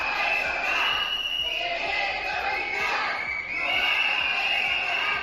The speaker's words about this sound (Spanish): En este hospital falta personal, es el grito de guerra de los sanitarios en estos 2 meses de protestas.